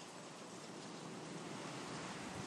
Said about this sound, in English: And now, see, most of that is wind you can hear rather than rain.